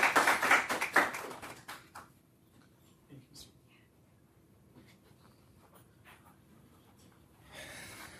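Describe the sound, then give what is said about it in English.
A burst of audience applause at an open mic event in Dearborn, welcoming a speaker, dense and fairly loud at first, tapers off within about two seconds into quiet with scattered small clicks and shuffling. “So please warmly, you know, applaud whatever you do at these things.”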